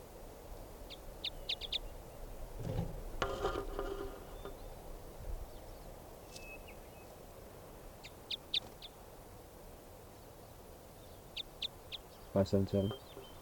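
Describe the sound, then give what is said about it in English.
A bird labeled 577 calls loudly in response to playback in two harsh, harmonic bursts, one early and one at the end, while fainter high-pitched chirps sound intermittently in between over a soft background hiss. “So 577 was the loud bird there.”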